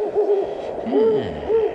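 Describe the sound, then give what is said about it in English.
An owl hoots three times in a slow, steady rhythm, each call a low, hollow tone that wavers slightly, clear with no one speaking. “The owl beats against the window pane.”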